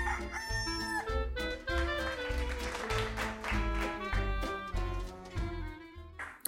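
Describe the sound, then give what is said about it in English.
Loud rooster crowing and squawking chickens fill the whole stretch, layered over a steady thumping low beat, with no one talking. “We are delighted to have you back here in our hen house, so please, pull up some hay, let's get squawking.”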